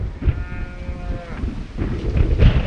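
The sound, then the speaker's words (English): One drawn-out lowing call from cattle huddled near a shed on Greg Swecker's farm in Dana, Greene County, central Iowa, rising over a steady rush of relentless wind that continues after the call fades. No one speaks. “In the field that sits just behind Swecker's house, cattle huddle near a shed to get a break from the relentless wind.”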